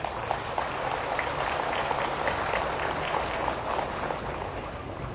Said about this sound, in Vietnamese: Những tràng vỗ tay của quý vị đã cho thấy rằng quý vị cảm thông được với ba ẩn dụ này và cam kết rằng là mỗi khi mình vương phải một nỗi khổ niềm đau nào đó phải có trách nhiệm hạ đặt nó xuống.